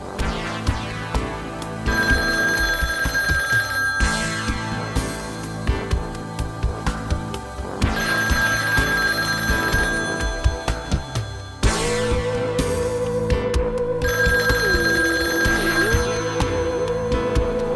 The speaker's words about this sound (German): Pausenlos klingelte das Telefon, doch immer ging es um andere Autos.